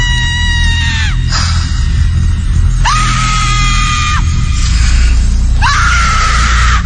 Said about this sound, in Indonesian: Terus berteriak kesakitan